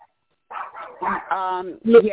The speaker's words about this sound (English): Hold on, my dogs are barking. Hold on.